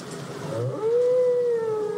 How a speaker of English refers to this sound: It is sung by the male. He'll sing anywhere from 6 to as long as 30 minutes and then start again. In the ocean, the other whales will pick up the song and pass it on. The songs change every year, and we still don't know what purpose they serve.